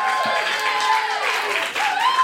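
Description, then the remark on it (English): A crowd breaks into a sustained round of applause, dense clapping holding steady and loud for a couple of seconds, with rising and falling whoops and cheers threaded through it. “Give us a round of applause if that's the one that you're going to masturbate to.”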